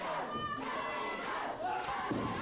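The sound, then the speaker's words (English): A wrestling crowd at a tag-team match roars and cheers steadily in support of wrestler Eddie Gilbert, with loud overlapping shouts and chanting voices forming a dense, continuous wall of noise, plus an occasional dull thud. “Crowd fully behind Eddie Gilbert, as you'd expect.”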